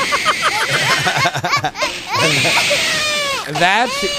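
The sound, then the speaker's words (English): A baby screams and wails in a temper tantrum at Christmas, being videotaped. Sharp, high-pitched shrieks and sobbing bursts rise and fall, loud and continuous with brief catches of breath. “Nothing says Christmas like screaming babies. It sounds like an elephant.”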